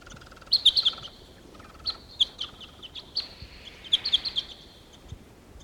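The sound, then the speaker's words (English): Two wild birds sitting in the top of a tree chirp in quick, high-pitched bursts, short tweets clustering in several groups over a soft, steady background hiss, with no voices. “Here's the wild bird. There are two together sitting in the top of a tree here.”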